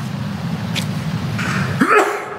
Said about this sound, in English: Bless you.